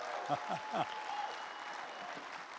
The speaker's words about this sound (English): Thank you, band. You guys are amazing. Give the band another big hand, would you? Guys, when we clap, we really clap. Amen. Give the band a big hand.